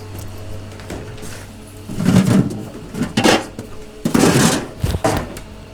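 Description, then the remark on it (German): Rustling and handling noises come in a few short bursts as a Petri dish with an oyster mushroom culture is taken out of a refrigerator, over a steady low hum. “Hat Manuel was aus dem Kühlschrank rausgeholt?”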